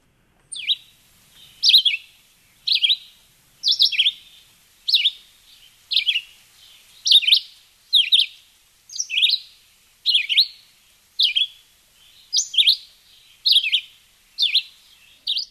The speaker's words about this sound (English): now I'm not remembering which one of you wanted us to play a red-eyed vireo